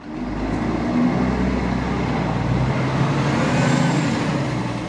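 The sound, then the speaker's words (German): A bus pulls to a stop amid steady town traffic, fewer than three streets from the town entrance, in what seems to be the town centre, its deep engine rumble dropping away partway through while the broad roar of the street continues, loud, with no voices. “Der Bus hielt keine 3 Straßen vom Ortseingang entfernt und es schien bereits die Stadtmitte zu sein.”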